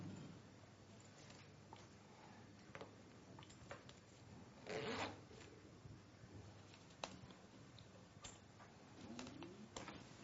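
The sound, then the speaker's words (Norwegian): Two zippers are pulled closed and opened again, one longer rasping zip standing out midway, with quieter short zips, clicks and handling rustles around it, fairly soft. “Nå skal du lukke begge glidelåsene og åpne dem igjen.”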